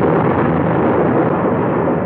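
A loud, steady roll of thunder, a dense rumbling wash of noise that holds its strength for the full two seconds without a clear crack or pause. No voices are heard.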